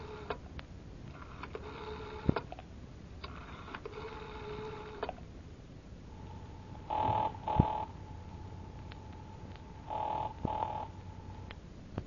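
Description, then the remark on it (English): A telephone call to Breen's Motors rings on the line: buzzy ringing bursts first, then a tinny ringback tone in two double-pulse rings over a faint steady hum, with no talking. “But it all depends on how good I can sound on the phone.”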